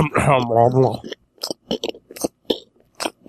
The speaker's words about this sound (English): Because I'm taking larger bites and I'm just going to be sitting there chewing the whole fucking time.